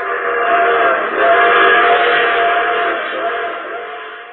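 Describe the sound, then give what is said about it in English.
A train sounds loud for several seconds, a steady rumbling roar with sustained whistle-like tones layered through it and no voices. “I take this same train every week at this time.”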